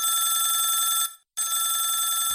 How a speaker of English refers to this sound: Mom! Telephone!